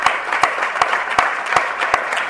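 A crowd applauding steadily for a flamenco dancer from Málaga on her 23rd birthday, a dense wash of overlapping claps with a few sharper, louder claps recurring in a loose rhythm throughout. No voices are heard.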